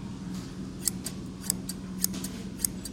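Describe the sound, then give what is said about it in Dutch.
A pair of scissors dating from 1964 snips open and shut, sharp metallic clicks repeating in a steady rhythm, four crisp closes with softer openings between, over a low steady hum and no talking. “Dit is uit 1964, deze.”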